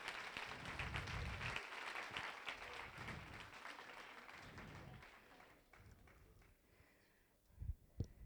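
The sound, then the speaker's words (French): An audience applauds the camera operators and the whole technical crew, with dense, crackling claps that gradually thin out and fade toward the end, followed by a couple of louder isolated thumps. “Et on peut les applaudir, tous les gens, les hommes à la caméra, toute l'équipe technique.”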